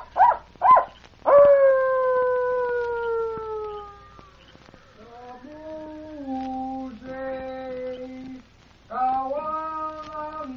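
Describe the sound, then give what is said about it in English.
A man imitates coyote calls as a signal: two quick yips, then a long falling howl, followed by lower wavering cries and a final howl, loud, with no talking. “Coyote signal? Yes, go on. He mounts it. You see? He gives more coyote talk.”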